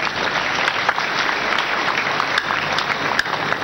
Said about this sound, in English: Clap for him.